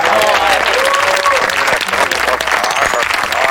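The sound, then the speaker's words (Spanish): A crowd applauds for the Spanish film Amanece, with dense, steady clapping that stays loud for the whole stretch, with faint voices mixed into the noise. “Joder, Amanece un poco, un aplauso.”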